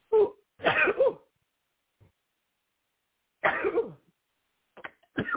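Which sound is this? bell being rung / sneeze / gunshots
sneeze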